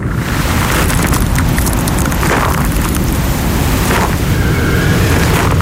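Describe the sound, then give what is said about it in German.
Strong wind roars steadily across an open mountainside of ice and rock in Bavaria, Germany, a dense low rumble with hissing gusts that swell and ease slightly, loud throughout with no voices. “Eis, Wind, Fels. Im Gleichgewicht.”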